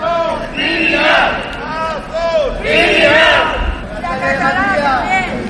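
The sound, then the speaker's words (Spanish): Members of an association of relatives of DANA victims, gathered in front of the regional parliament, shout in loud, overlapping chants demanding the resignation of the president of the Generalitat, rising and falling in three surging waves of raised voices, with a constant rumble of crowd noise underneath. “Son los gritos de los miembros de una asociación de familiares de víctimas de la Dana que se han concentrado ante la Cámara Autonómica reclamando la dimisión del presidente de la Generalitat, que no ha salido.”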